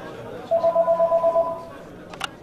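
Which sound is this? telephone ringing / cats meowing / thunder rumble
telephone ringing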